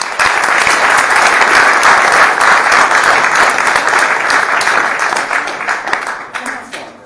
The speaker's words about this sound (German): Meine Damen und Herren, guten Abend. Ich möchte mit einem herzlichen Beifall unsere heutige Referentin begrüßt haben, nämlich Karin Leuk.